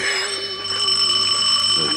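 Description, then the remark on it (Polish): A doorbell rings with a steady, sustained electric tone that holds for about two seconds at moderate loudness, with a faint murmur underneath. “O, dzwoni.”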